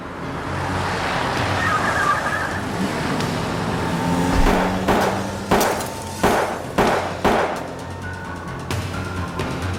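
A rumbling car engine and road noise, then a burst of sharp, loud cracks in quick succession, like gunshots shattering a car window, with glass breaking close by.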